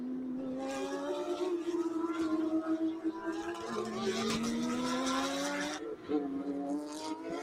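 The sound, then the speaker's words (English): Race car engines roar continuously, their high, buzzing whine climbing in pitch as the cars accelerate, with brief dips around gear shifts as they speed past: Li Chow's car with Bianhe's Shanghai Yonder car right behind, streaking through to the far side of the track during a race. “Still watching Li Chow now with Bianhe, the Shanghai Yonder car, right up his tailpipes as they streak through to the far side of the track.”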